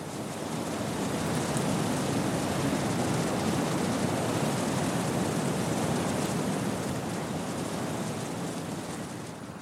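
Steady, continuous rush of sea waves washing onto the shore, a broad hissing roar that swells gently without pause, full, with no voices present.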